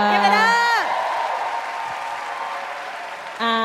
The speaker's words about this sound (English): Clap it up